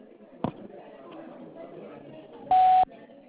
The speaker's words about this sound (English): Hello. I'm unavailable at the sound of the beep. Leave a message.